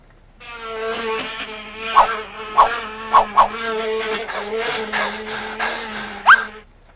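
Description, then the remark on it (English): A steady, droning insect buzz like mosquitoes hovering, lasting several seconds, with a handful of short, sharp bursts cutting through it. No one speaks. “There's nothing like fresh mosquitoes.”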